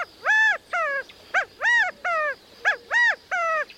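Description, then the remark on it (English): A male California quail, hopped up onto a stump, gives its rallying call to gather the covey together: repeated loud, harmonic, arching calls, about eight in under four seconds, each a rising-then-falling note in an uneven rhythm, with no talking. “With such a large extended family, it's not surprising when a male California quail hops up onto a stump to gather the covey together with this rallying call.”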